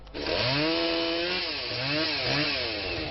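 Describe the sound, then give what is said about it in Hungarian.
A chainsaw roars loudly and continuously as firefighters cut down a tree that had endangered a house, after a night windstorm, its buzzing engine pitch rising and dipping in two surges as the blade bites into the wood. No voices are heard. “Ez a fa például egy házat veszélyeztetett már a korábbi viharoknál is. Most kivágják a tűzoltók.”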